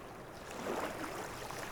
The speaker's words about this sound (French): Regarde où est-ce qu'on est aujourd'hui. Puis d'écouter les vagues. Puis t'écoutes. Le vent fait du bruit. Et le silence fait du bruit.